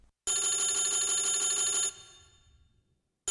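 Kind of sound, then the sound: household object, telephone ringing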